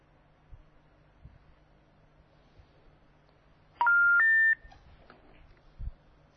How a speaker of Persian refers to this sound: ما هم داریم مرتب شماره هاشون رو میگیریم ببینیم که موفق میشیم که آیا جواب میدن تلفن ما رو یا خیر.